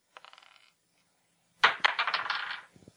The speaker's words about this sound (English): Now, it's a spin-down die, so it's not tournament legal. Oh, geez. But I think it'll be okay. Okay. We'll try it. All right. So we're just going to roll 20-sided dice. Who gets to talk first? And here we go.